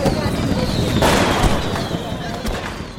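Fourth of July fireworks going off: a few sharp booming bursts, the biggest around the middle and another near the end, over a continuous crackling, noisy wash with a faint whistle in the background.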